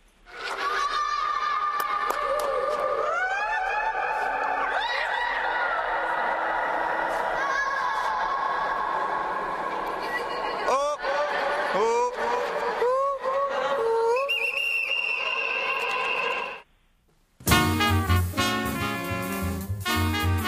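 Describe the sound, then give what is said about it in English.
Many Indian visitors shriek and wail in overlapping, rising and falling high pitches, each cry ringing out in the long echo of a vast mausoleum with a huge dome. They stop abruptly, followed by a short silence. “It's a vast mausoleum, and it's got a huge dome on top, but it's quite popular with the Indians going along to visit, and they like to shriek and make lots of noise in it. So it is quite a huge cavernous space.”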